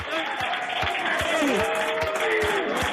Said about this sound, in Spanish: Bueno, pues esos eran los aplausos de parte del equipo ahí en la NASA